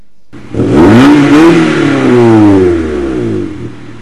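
A car engine roars up through a full-throttle rev as the accelerator pedal is pushed all the way down, pitch climbing quickly and holding high before easing back down, loud with no one speaking.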